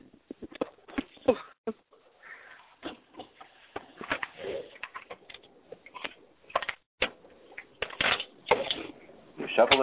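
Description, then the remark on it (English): Tarot cards are shuffled for a tarot reading, with irregular bursts of crisp slapping and riffling that come in quick clusters, pause briefly, then resume throughout. “Shuffling.”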